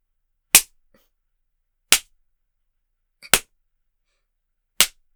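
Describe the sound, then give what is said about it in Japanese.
Four sharp, loud hand spanks on bare buttocks land at a steady, unhurried pace, each a crisp smack that cuts off quickly, with silence between and no talking. “はぁ、お尻赤くなってきてるわよ。”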